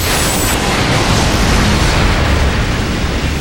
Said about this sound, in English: Then the sending disk, the one that translated ships into impulses and transmitted them, splashed its blue-white lightning against our hull.